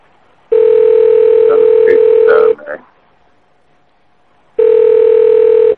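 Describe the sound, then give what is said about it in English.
A loud, steady telephone tone sounds for about two seconds, cuts off, then returns after a pause, like a ringing signal on a line, with brief muffled voice fragments near the first tone's end. “Is either the police calling back or that person's the first number we called? It might be their cell phone or something.”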